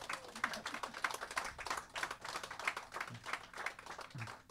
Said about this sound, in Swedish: Ja, och vi hälsar våra gäster Mette och Martin välkomna med en stor applåd.